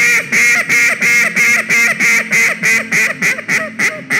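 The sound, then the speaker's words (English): A duck call blown in a loud, fast hunting-style hail call: about fifteen harsh, evenly spaced quacks in a steady run, alone with no talking. “That's where a hunting style hail call comes from.”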